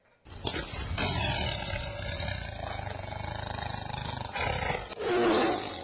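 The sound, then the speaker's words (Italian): A tiger roars loudly in one long, sustained growling roar lasting several seconds, with deep rumbling throughout, ending in a brief breathy snarl. “Per fortuna che quelle strisce arancioni e nere si stanno allontanando.”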